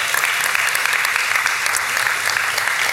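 A crowd applauds steadily, a dense, even wash of many hands clapping at once that holds at a constant loud level for the whole stretch, with no voices rising above it.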